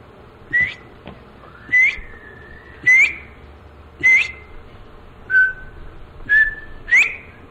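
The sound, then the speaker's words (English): A whistled imitation of a quail call: seven short, clear, rising notes repeated at a steady, even pace, fairly loud, with no talking. “And until you see a quail come up around your feed, you couldn't realize what the calls mean and study them like I have.”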